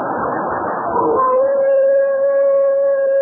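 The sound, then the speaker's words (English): A coyote's mating call: a long, steady, sustained howl that rises out of a brief noisy rush and holds its pitch, loud, with no talking, heard outdoors on a cold night under the stars by a campfire. “Well, that's the coyote's mating call.”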